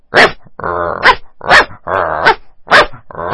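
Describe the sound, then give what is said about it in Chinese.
A person imitates a big dog barking, alternating sharp bark bursts with longer growly, throaty rumbles in a steady rhythm, loud, with no other talking. “然后 小小的宠物狗， 用大一点的，大一点的。”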